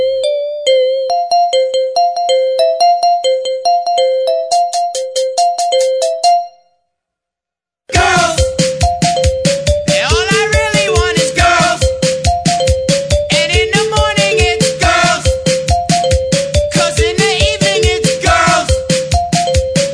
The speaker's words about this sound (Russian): Если вам все это близко, такой рингтон просто must have. В моем мобильном бестиарии он уже есть,